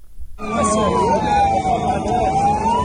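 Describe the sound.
Ambulance sirens wail loudly and continuously as ambulances rush people wounded in an Israeli air strike in Gaza to hospital, the pitch sweeping slowly down and back up over a steady rumble of traffic and crowd noise, with voices faintly mixed underneath.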